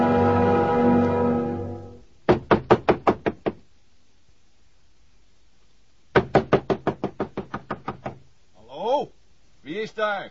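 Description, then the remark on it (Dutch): Loud, rapid knocking on a door in two insistent bursts of about six and nine raps, with short voiced exclamations between and after, following a brief stretch of sustained sound at the start; someone urgently demands that the door be opened. “Doe direct open. Het is dringend. Wie is daar?”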